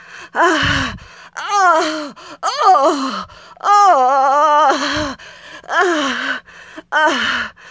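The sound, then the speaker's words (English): A woman gasps and moans in about seven loud bursts, each a breathy vocalization with sliding pitch, separated by brief pauses and with no spoken words. “I suppose hearing your normally humorous wife gasping and moaning like a cheap whore would be quite thrilling.”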